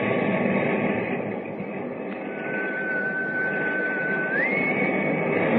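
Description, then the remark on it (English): A thin, steady whistle tone holds for about two seconds, then slides up a step in pitch near its end, sitting faintly over a constant loud rushing, rumbling noise with no talking. “I didn't want to ask you before I heard the whistle again.”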